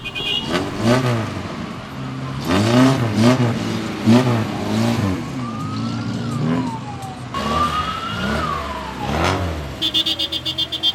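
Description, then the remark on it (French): The engine of a Soviet-built Lada car in Cuba revs up and down several times, loud, while a rising and falling siren wails faintly in the background. “Les Lada, créées et construites en Union soviétique, raflaient régulièrement la palme des plus mauvaises voitures du monde.”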